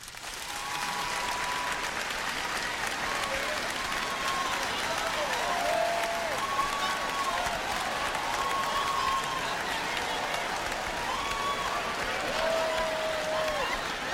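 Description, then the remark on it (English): A crowd claps steadily for about fourteen seconds, a dense, even wash of applause with some faint cheers and whoops mixed in, after being asked to clap if they think they would go to heaven. “By round of applause, how many of y'all think if the world were to end right now, clap if you think you'd go to heaven?”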